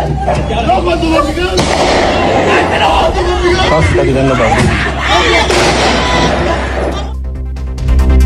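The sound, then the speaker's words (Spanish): Several sharp gunshots fired by robbers during a robbery crack out amid a loud, chaotic commotion, with agitated voices talking and shouting throughout before the noise suddenly drops away near the end. “cuando los ladrones sacan su armamento y lo comienzan a disparar”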